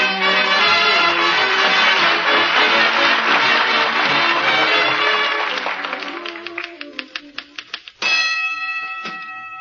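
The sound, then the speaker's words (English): A typewriter clatters in a fast, dense flurry of keystrokes that thins out into separate clicks, then a loud, ringing bell cuts in and sustains, followed by a few more keystrokes, as a letter is typed in the living room at 79 Wistful Vista in the radio show Fibber McGee and Molly. “Awful loud bell on that typewriter, dearie.”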